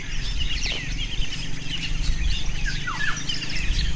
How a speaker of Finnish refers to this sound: Täällä sademetsässä on lajeja aivan valtava määrä. Satoja lintuja, taitaa olla yli 350 lintua lajistossa.